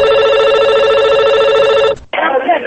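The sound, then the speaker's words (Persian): A telephone rings loudly with a steady electronic trill for about two seconds, then cuts off abruptly, followed by a brief burst of talk: an incoming listener call on the Radio Azadi call-in program Sorood wa Sokhan. “حال نوبت نشر تماس های تلفنی تان است.”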